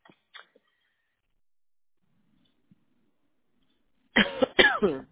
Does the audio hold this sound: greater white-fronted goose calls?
no